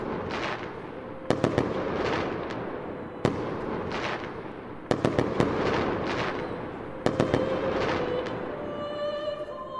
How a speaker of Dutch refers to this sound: De huizen worden opnieuw verlicht en op de bijzonderste plekken van de stad wordt er vuurwerk afgestoken.